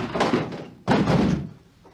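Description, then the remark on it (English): Two heavy thuds against a locked door, the second one louder and sharper, each booming briefly with a dull, resonant impact before fading out, with no one talking. “This door locked.”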